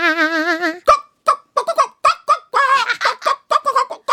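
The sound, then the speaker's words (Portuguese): Several people imitate a chicken clucking on command during a call-and-response game, opening with a long wavering squawk followed by a rapid, uneven run of short bawk-like clucks, fairly loud. “Seu rei mandou dizer que todo mundo imitasse uma galinha!”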